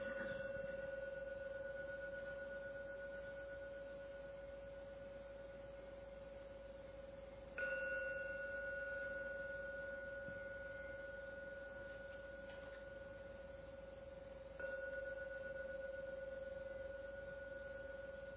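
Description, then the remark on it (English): A meditation gong is struck three times at slow, even intervals, each strike blooming into a long, steady ringing tone that hums on and gently fades before the next one. “I will now ring the gong 3 times, and please listen as usual to every sound from the gong.”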